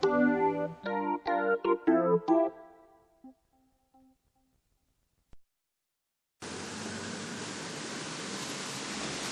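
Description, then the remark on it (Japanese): A short chiming musical jingle fades into silence, then a dense, steady hiss of heavy rain from approaching Typhoon No. 6 starts abruptly and pours on loudly without letup. “いやー、すごい雨でございます。雨の中からお送りしております。”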